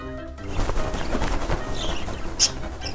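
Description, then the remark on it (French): A parakeet gives a few short, bright chirps and a sharp squawk near the end, heard over a busy, rustling background of steady noise. “Puis en perruche.”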